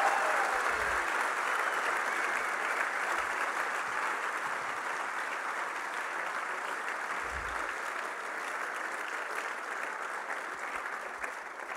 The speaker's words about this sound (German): Ah. Applaus! Vielen Dank.